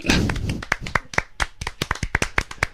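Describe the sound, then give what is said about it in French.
Applause from a small studio audience: a brief dense burst of clapping that quickly thins into sharp, scattered individual claps, fairly loud, with no talking over it. “Donc on va applaudir”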